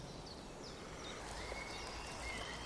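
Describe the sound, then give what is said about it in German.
Faint, scattered bird chirps rise over a steady hiss of outdoor ambience, a few short high calls with no voices present. “Horcht mal, was es zu hören gibt. Vögel.”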